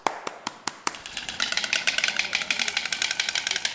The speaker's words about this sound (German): Klappert lustig, klappert die Klapp. Der Storch macht ungefähr so.